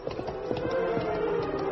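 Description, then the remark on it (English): Horses Silver and Scout galloping as the masked man and Tonto ride up out of a creek bed, hooves clip-clopping in a quick, steady rhythm of hollow clops at a moderate level, with no one speaking over them. “As the masked man and Indian rode up out of the creek bed”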